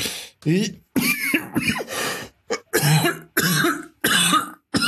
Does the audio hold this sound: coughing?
yes